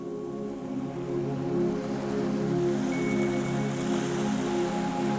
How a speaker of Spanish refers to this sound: El mar, a escasos metros, se oye suave.